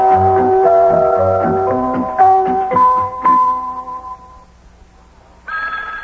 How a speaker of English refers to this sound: There's the telephone again. Hey, the telephone's ringing.